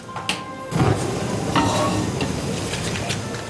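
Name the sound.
garlic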